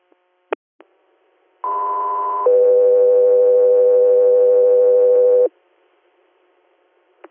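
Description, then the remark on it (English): A medical dispatch alert sounds: a brief higher steady tone shifts straight into a longer, lower tone, loud and continuous for about four seconds, framed by a few faint radio clicks. “Guess we are seeing medical tones.”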